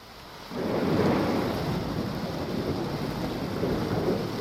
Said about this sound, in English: Shropshire, 1903. It was raining. Had been raining for days.